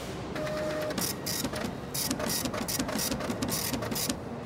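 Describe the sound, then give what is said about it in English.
A printer prints out a guest's bill at hotel checkout, running steadily for several seconds, its mechanical whir broken by rhythmic bursts of high, scratchy clatter as the print head moves back and forth across the page. No one speaks. “Would you like to fill out a short survey while I print out the bill?”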